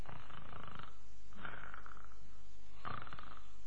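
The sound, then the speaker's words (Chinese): A man's voice imitates the loud snoring of the character Li Kui, asleep in a told story: three rough, rasping snores in a steady rhythm, prominent, with short pauses between them and no talking. “这李逵呀、这呼噜还打着呢。”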